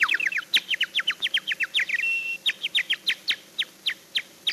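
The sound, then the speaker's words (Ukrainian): A whistle imitating a nightingale's song, whistled in a park to lead young lovers out of it: a fast, steady run of bright chirping notes with one brief held tone midway. It sounds clear, with no voices. “Отак я засвищу солов'йом, і всі влюблені ідуть на звук солов'їної пісні, а я їх потихеньку із парку вивожу, вивожу і виведу.”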